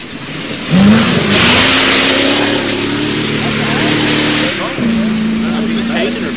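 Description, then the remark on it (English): Two rally cars roar past at speed, one after the other, the second driven by Pete Wood, their high-revving engines loud with a brief dip between them. Voices may be faintly present underneath. “A couple of them. Two cars.”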